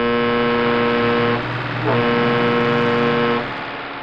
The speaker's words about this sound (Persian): جاده خیلی شلوغ بود و مرتب از روبرون ماشین میومد. راننده کامیونم پشت سر هم بوق میزد.